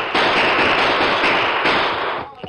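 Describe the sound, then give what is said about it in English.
Gunfire in a Lone Ranger story: a loud, dense crackling burst of rapid shots as Tonto fires at fleeing men, running for a couple of seconds before cutting off, with no voices. “Tonto, shoot her, they'll get away.”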